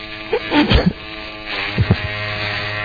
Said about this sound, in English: That is my Conair razor. That's real.